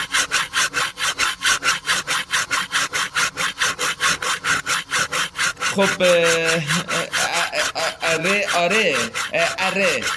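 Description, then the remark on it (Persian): A hand saw rasps steadily through wood in quick, even back-and-forth strokes, loud throughout; partway through, a voice briefly joins in over the sawing. “حالا چه افکتی هست؟ ای کاش قبل از اینکه میگفتی به چشم و اطاعت میپرسیدی چی هست. مگه چیه؟ صدای اره دستی گوش کن.”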